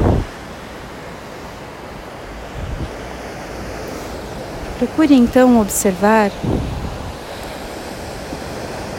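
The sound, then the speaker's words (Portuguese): Steady roar of ocean waves that form far out at sea and break near the beach before flowing back to the sea, a continuous hissing wash of surf that barely changes over the whole clip, with a man's voice speaking briefly over it partway through. “forma lá no fundo do mar e lentamente vem se formando até quebrar perto da praia. E a onda que quebra também se vai, é devolvida para o mar.”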